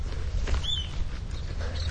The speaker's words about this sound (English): Look at the bird singing for me.